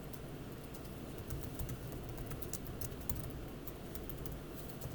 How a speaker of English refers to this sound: I'm just typing a message to make clearer what I just said so that we're all on the same page.